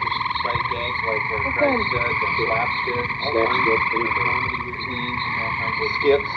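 A dense, continuous chorus of croaking toads and frogs, with steady trilling calls layered under repeated twangy, plucked-sounding croaks that come and go throughout.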